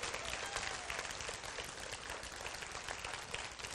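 An audience claps for Jesus together in a dense, steady burst of applause lasting several seconds, many hands blending into a continuous crackling roar with no distinct individual claps.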